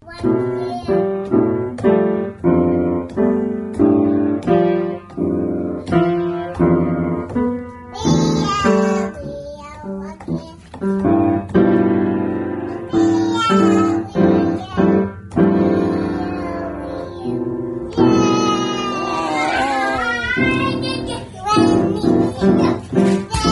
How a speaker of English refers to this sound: And if you're wondering what it sounded like when Don's toddler daughter gave a concert, it sounded like this.